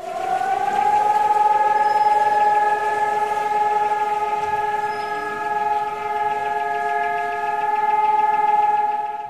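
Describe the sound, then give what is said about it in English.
A Holocaust remembrance siren in Jerusalem sounds one long, loud, unbroken wail, rising briefly at the start and then holding a steady pitch for the whole stretch, with a low rumble underneath and no talking, as pedestrians stop for a moment of silence. “And in Jerusalem this morning, pedestrians stopped and observed a moment of silence for the victims of the Holocaust as sirens sounded in remembrance of those lives lost, per AFP News.”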